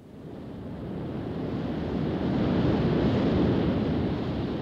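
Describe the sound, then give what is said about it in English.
Atlantic Ocean waves and wind, looked out on from the ship Queen Mary, make a steady, rushing roar that swells gently louder partway through and holds, with no distinct individual breakers and no voices. “From the Queen Mary, Bethune looks out at the Atlantic.”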